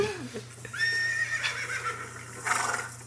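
horse neighing

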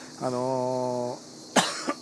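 coughing

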